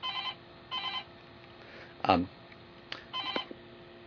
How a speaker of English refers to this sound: And one of the disadvantages of being in the office is having the phone ring.